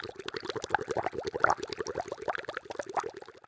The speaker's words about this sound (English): When you're finished, put the oil in the pan until it is boiling.